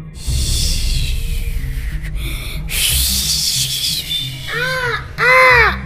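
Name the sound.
crow cawing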